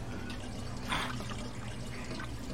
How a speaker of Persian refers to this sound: حالا 2 لیتر آب وارد شیشه 3 لیتری شده که 1 لیتر دیگه برامون باقی میذاره.